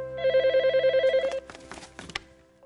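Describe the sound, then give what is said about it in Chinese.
A telephone rings with a rapid warbling electronic trill, a call from a husband at sea, steady for about a second, then stops as faint handling clicks and rustles follow. “每时每刻，我都期待着他从海上打来电话，只要能听到他的声音，我就心安了。”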